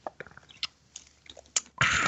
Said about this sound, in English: Now, before we get to the topic of the week, I got to have a drink of water here. I'm going to be talking a lot, so hold on.